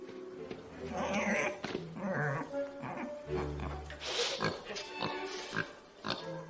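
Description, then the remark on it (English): A dog grunts and whimpers, a steady run of low snorting grunts mixed with higher whiny cries that carries on for several seconds. “Nice doggy.”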